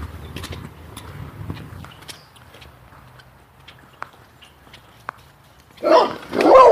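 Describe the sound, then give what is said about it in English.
A couple of loud, harsh dog barks burst out near the end, following a quiet stretch of low rumble and scattered clicks; they sound like a big dog and a smaller dog. “Oh, easy dog. Dogs. It's a big dog and a little dog.”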